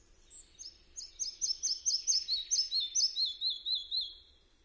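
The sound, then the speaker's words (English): A red-breasted flycatcher sings alone: a brisk run of high, sweet repeated whistled notes, rising then gently falling in pitch, clear against a quiet background. “Its song is somewhat similar to the singing of the willow warbler.”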